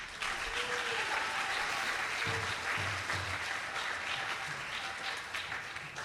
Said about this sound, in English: Let's not forget the people who've been serving out prasad and the cooks who've helped feed us and who are helping to feed us. So a round of applause for them.